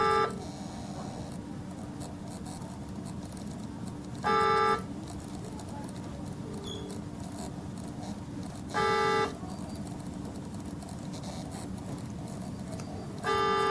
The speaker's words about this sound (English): Well, this is, I mean, just a little bit of sound here of a neonatal intensive care unit. Not sure what hospital this is from, but these sounds, you'll find them everywhere.